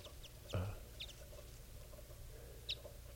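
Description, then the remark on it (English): A female bird gives a few soft, brief, high-pitched calls from the top of a tall tree, spaced apart over a quiet background, with a dull thump near the start. No one speaks. “And I don't know what the female, I think I hear her softly calling from the top of a tall tree.”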